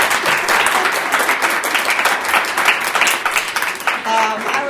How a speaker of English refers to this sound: As a visiting fellow, instead of just working on her own research, what does she do but give us all an extraordinarily stimulating. So could we have just a round of applause?